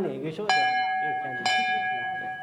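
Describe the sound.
A large bell is struck twice about a second apart, each strike ringing out loud and close with a long shimmering tone that carries between hits, over faint voices in the background.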